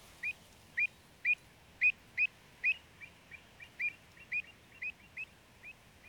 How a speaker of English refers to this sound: Because of this triumph, the avocets, black and white birds with a turny-uppy bill, have become the logo of the RSPB.